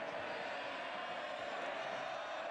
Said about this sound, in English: to the sounds of a crowd. And this crowd appears to be cheering for you, Ikmer.